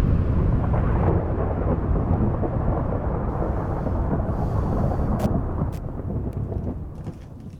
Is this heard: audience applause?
no